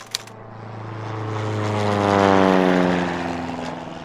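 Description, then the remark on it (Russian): A propeller airplane at a field airfield at Stanitsa Pashkovskaya in 1943 drones past, its throbbing engine swelling to a loud peak and then fading as the buzzing pitch slowly drops. A brief click sounds at the very start. “Полевой аэродром.”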